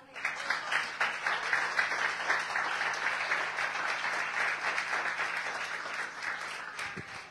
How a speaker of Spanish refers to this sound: ¿Le da un aplauso?